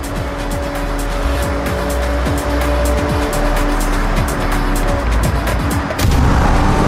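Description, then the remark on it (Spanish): A loud car engine in a racing video game, using sound recorded from real cars, revs hard with steady drone and sharp throttle bursts, tires squealing and skidding repeatedly as the vehicle races, with no voices present. “Desde el Horizon 5 que han estado grabando coches reales. Sí. Para poder sí, lo que es mejorar el sonido”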